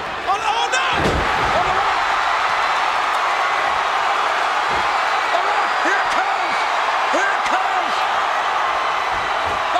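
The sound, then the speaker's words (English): Wrestler The Game is chokeslammed by the Big Show off a table, his body slamming onto the concrete floor with a single loud, booming thud, followed by a roaring arena crowd that keeps cheering and shouting throughout. “Right off the table, onto the concrete floor.”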